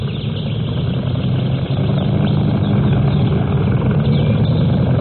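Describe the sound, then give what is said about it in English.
The engine of a 15-foot motorboat on a lake runs steadily and loudly, a continuous low droning rumble with no break for the whole stretch and no voices. “Well, it's only a 15-footer, but we love it. Come on, hop in.”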